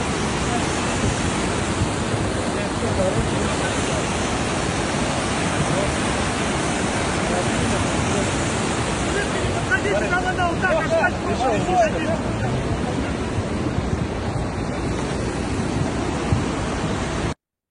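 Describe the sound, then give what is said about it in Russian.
Rushing floodwater roars loudly and steadily from start to finish, a dense, unbroken wash of churning water washing away a section of the A-333 Kultuk–Mondy highway in Buryatia, Russia, with faint indistinct voices briefly surfacing beneath it partway through. “А вот просто кусок трассы ушел под воду, да и все. Просто его снесло, так сказать.”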